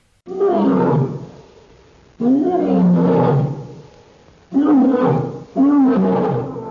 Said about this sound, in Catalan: Que fàcil era aquest so, el lleó, clar que sí.